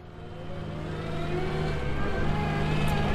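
A heavy truck engine drones as it drives into a construction site, its pitch climbing steadily as it accelerates and grows slightly louder over a few seconds, with no voices present.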